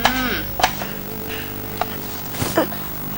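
Potatoes, carrots and green beans being chopped on a cutting board: a handful of sharp, irregular knife knocks, about five over a few seconds, over a steady low hum with no talking.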